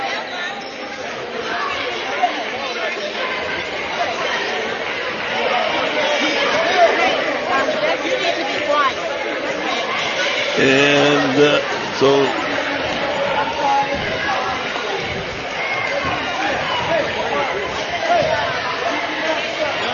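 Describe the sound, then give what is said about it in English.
A steady wash of crowd chatter from Huntsville fans in the stands at a game at Brenham High School, as they are being ejected for making too much noise: a dense babble of many voices with brief louder swells and a few words spoken over it. “They're making, I guess, a little too much noise, and he couldn't.”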